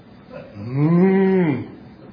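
A single long cow moo, rising and then falling in pitch over about a second, loud with rich harmonics, alone with no talking.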